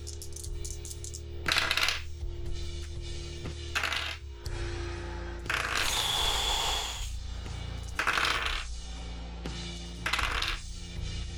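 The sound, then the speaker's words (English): A rattling clatter of many small hard objects tumbling and striking a surface in repeated bursts, like a big handful of dice rolled again and again, fairly loud, with no talking. “So many dice.”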